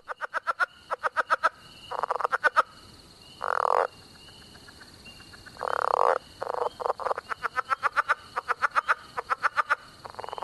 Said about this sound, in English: Like this chuckling leopard frog, a favorite of Tom Crone's.